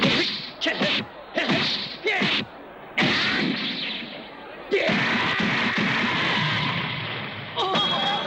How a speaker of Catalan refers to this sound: D'un cop de dit envia l'Alange lluny enllà. S'estampa contra un mur.